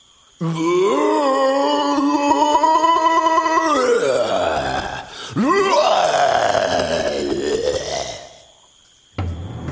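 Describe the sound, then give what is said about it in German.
A gorilla roars loudly across an island in two long, rough bellows. The first holds steady and then slides down, the second swoops up and falls away, and a short burst starts again at the end. “Dann erschüttert ein furchtbares Gebrüll die Insel.”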